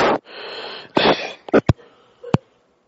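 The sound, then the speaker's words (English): Heavy, raspy breathing comes through a thin phone line: two long, noisy breaths followed by a few short, sharp huffs, fairly loud, with no talking. “Who's breathing like that on the phone?”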